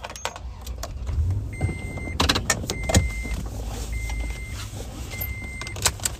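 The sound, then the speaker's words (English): Someone climbing back into a truck after getting gas: keys jangle, sharp clicks and thumps sound, and a steady electronic chime beeps four times at even intervals over a low vehicle rumble, with no talking. “All right, I'm back in the truck.”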